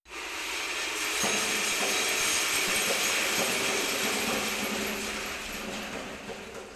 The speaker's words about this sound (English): I thought if you dropped BBs or something like that, you could get the sound of rain or surf or a surging wave. Here's what 3,000 3/8 inch steel shots sound like being dropped from about 60 feet.